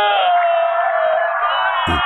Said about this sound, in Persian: صدای گریه جمعیت از کجا میاد